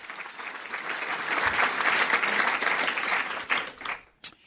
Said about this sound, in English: I have a confession to make. You can applaud.